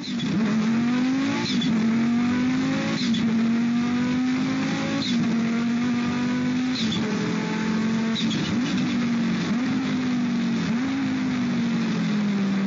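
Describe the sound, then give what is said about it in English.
A turbocharged Audi Quattro race car engine drones loudly and steadily, its pitch rising and dipping through repeated gear changes, with sharp turbo chirps, whirs and pops punctuating each shift; the exhaust exits through a large pipe out the side of the passenger door straight off the turbo; no one speaks. “Just pops, whirs, and turbo chirping.”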